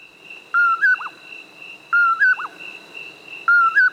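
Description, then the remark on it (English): A common poorwill calls three times at a steady pace, each a clear whistled two-part phrase, over a constant high insect drone in a quiet night setting. “It's the common poorwill, a nocturnal hunter of insects. The easiest way to locate this species is to listen for its call.”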